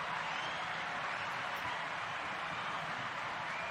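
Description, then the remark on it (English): A studio audience applauds steadily as a guest is welcomed, a dense, even wash of many hands clapping at a constant level for a few seconds, with no voices over it. “The audience, thank you to everybody that just applauded.”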